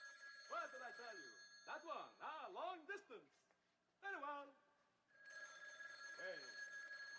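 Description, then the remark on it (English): At least five rotary telephones ring steadily and loudly, with a sustained jangling that swells toward the end while excited voices chatter over it in quick bursts. “Rotary phones! Rotary phones! Oh my gosh, there's about at least five, so … is going to call on every single one of them.”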